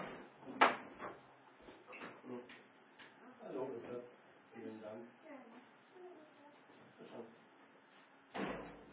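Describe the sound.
A door bangs open near the start as someone goes to answer the postman, followed by muffled voices talking, then another loud thump at the end as it shuts.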